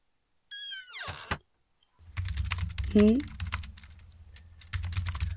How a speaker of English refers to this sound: Well, if you don't mind the sound of a keyboard clicking, then you're welcome to stay here for a little bit.